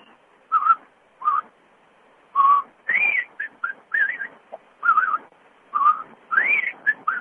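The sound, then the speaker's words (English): A person whistles a bird-like warble as a talent contestant: a run of short, bright, trilling phrases around the mid-high range, with quick pitch bends and brief pauses between bursts, with no talking. “He's got that little... Yeah. Bird warble. Not bad little warble.”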